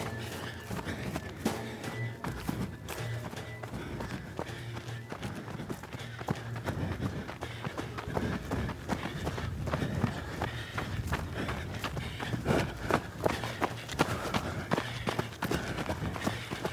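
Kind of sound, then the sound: human body sound, running footsteps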